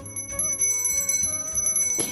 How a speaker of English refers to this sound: jingling bells that sound like tiny high notes of sparkling sweet beginnings of new love to find, to be, to have.